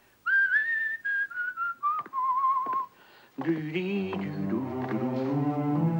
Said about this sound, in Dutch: Maar toen hij lag te smikkelen, hoorde hij van achter een houten omheining iemand fluiten die hij maar al te goed kende. Dat was de hondenmepper die de zwerfhonden wilde vangen.